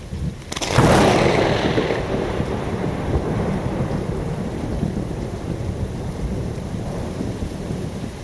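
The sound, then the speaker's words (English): A close lightning strike: a brief sizzle snaps into a sharp, loud crack, then deep thunder rolls and rumbles on for several seconds, with steady rain hissing underneath. “Listen for the sizzle and then the crack and then the rolling echo.”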